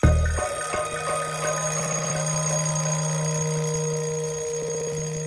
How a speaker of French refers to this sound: Le lendemain, le réveil sonne pourtant à 6 heures.